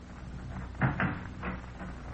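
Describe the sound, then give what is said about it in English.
A door being opened: a couple of soft wooden clunks close together, followed by a fainter knock, all fairly quiet over a low steady hum, with no voices. “Take a look out the door there and see if there's anybody snooping around.”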